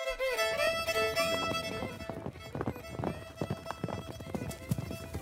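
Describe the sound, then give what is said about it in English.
Galloping horses' hooves pound in a fast, rhythmic clatter as the Lone Ranger and Tonto urge their mounts at top speed alongside the horse carrying Oliver Hornblow, several animals running together over a sustained musical backdrop, with a brief whinny near the start. “Urging their mounts forward at top speed, the Lone Ranger and Tonto were soon racing alongside the horse that carried a badly frightened Oliver Hornblow.”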